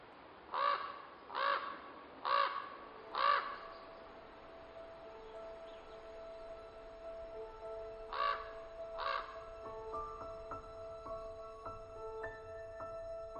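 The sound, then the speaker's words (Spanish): Harsh crow caws ring out in a quick run of four, then two more after a pause, over a soft outdoor background with faint chirping birds. “Cuando un cuervo se acerca, veo su plumaje y pienso: me gustaría ser cuervo y volar por todas partes, sin preocuparme de otra cosa que comer.”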